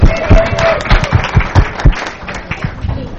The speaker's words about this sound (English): Let's give our contestants a round of applause.